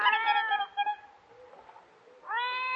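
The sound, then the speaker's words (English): A kitten meows twice, a drawn-out, slightly wavering cry followed by a quiet pause, then a second high meow starting near the end. Clear, with no talking, in a dark house during a storm. “Sounds like a cat. Wait till I strike another match. It's our kitten.”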